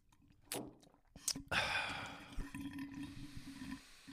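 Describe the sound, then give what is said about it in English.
Someone drinking water, with a few wet clicks and gulps, then a long breathy exhale over a low steady hum. No talking. “Water time.”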